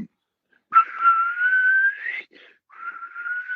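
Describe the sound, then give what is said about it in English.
A person mouth-whistles an imitation of the squealing high whistle from a hip-hop song: one long sustained tone that slowly rises in pitch, a short break, then a second steady whistled tone, with no talking. “the … song with the whistle, and it was just so fire”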